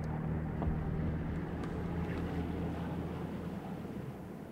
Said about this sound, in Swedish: Vänta. Var inte det ljudet av en motor?